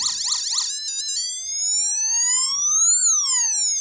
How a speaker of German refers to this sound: Da können wir unterschiedliche so Sirenen und so weiter machen.